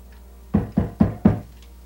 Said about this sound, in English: Knock on that door.